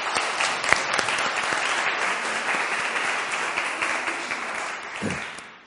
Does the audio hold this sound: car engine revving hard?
no